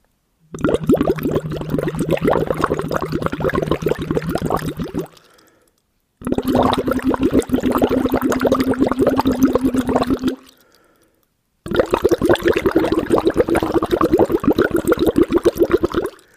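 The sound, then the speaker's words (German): Three sustained hummed tones, each several seconds long, made by a person humming into a hose held in the mouth and blown into water, with steady bubbling and gurgling over each note and short silent pauses between them. “nehme den in den Mund und mach da Töne rein”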